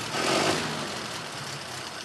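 The engine of a mint-condition 1933 Ford pickup truck, kept behind Ed Ruscha's Los Angeles studio, idles steadily, a low rumbling chug with a faint knock, holding an even pace with no voices over it.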